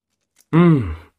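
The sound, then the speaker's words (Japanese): A single deep exhale during a medical exam, voiced like a sigh, sliding downward in pitch over about half a second, preceded by a faint quick breath. No talking. “吐いて。”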